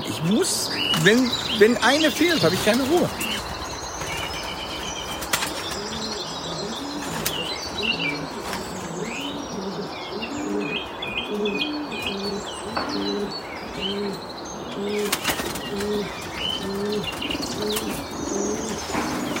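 Pigeons coo in a steady, repeating rhythm throughout, with busy chirps and occasional wing flaps overhead, in a pigeon loft full of birds.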